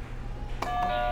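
A button click sets off a steady electronic buzzer tone that holds at one pitch with a bright, slightly harsh edge until the end, with a second faint click partway through. No one speaks.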